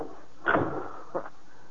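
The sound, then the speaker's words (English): A back door opens with a short, scraping thud, then shuts again with a second, softer knock about half a second later, against a quiet background. “Where are you going? Out the back door.”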